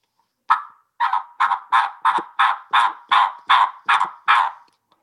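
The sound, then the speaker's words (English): A string of about ten raspy, coarse old turkey hen yelps made on a three-reed mouth call with a slit tear-out, loud, one opening note and then a steady, evenly spaced series with no talking. “Old hen.”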